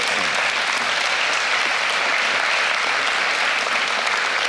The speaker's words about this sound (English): I think he deserves an applause.